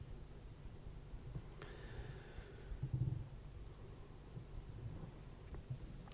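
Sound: thunder rumbling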